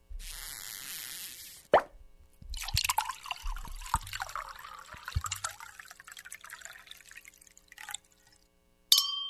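A cork pops out sharply, then wine glugs and splashes steadily into a glass for several seconds, ending with a bright, ringing clink of glasses. No voices.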